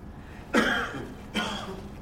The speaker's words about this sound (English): Inside this first silence that we shared was suddenly a cough. A quiet cough, but a cough that revealed a large, rumbling voice.